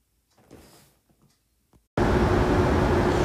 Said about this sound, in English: I'm in Charleston, West Virginia. It's a little odd thing to do. I'm on a train platform recording this podcast.